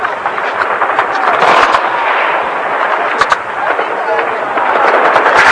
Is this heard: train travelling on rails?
no